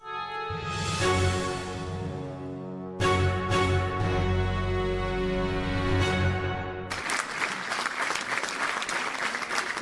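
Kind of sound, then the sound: crowd, opera audience applause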